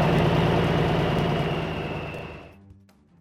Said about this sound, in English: The dog's barking continued for several minutes, but it was eventually drowned out by the sound of Mark's diesel engine running up through the gears.